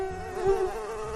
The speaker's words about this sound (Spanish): La mosca negra posada en la comida.